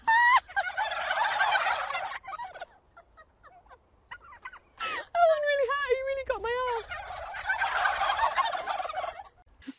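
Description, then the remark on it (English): A group of turkeys gobbles together in loud, rattling bursts, with a choppy burst of harsh gobbling calls in the middle and another chorus at the end, with no talking. “It's like, just search turkeys laughing. Turkeys laughing reporter or something like that.”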